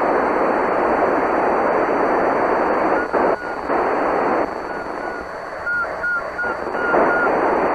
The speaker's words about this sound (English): Whoever's whistling, you're making it.